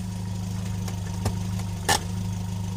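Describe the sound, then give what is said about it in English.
A car engine idles with a steady low rumble, broken by a couple of sharp sputtering pops before it settles back into its uneven hum, as the car breaks down. “Why have you stopped? Well, this car has broken down again.”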